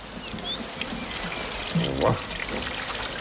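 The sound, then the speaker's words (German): A steady, dense rush of falling water like a heavy downpour fills the scene, with faint bird chirps above it and a brief voice sounding midway. “Was ist denn das für ein fürchterlicher Platterregen?”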